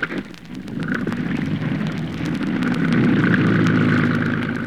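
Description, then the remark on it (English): A motorboat engine turns over and settles into a rumbling drone, growing louder and steadier after a few seconds, with a wash of water and wind noise underneath. “Pile into the boat now. Start her up”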